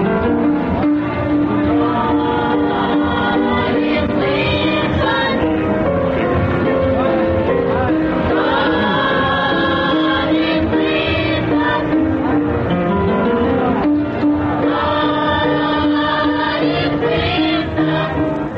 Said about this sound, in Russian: А сейчас вы слышите детский хор воспитанников негритянской религиозной школы.